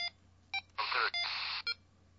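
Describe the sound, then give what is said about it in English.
Short electronic beeps from a radio receiver, the low beep on the B receiver signalling that both receivers are on, a few sounding in quick succession with two longer bursts of harsh static between them. Clear, with no one talking. “The low beep on the B receiver means that both of them are on.”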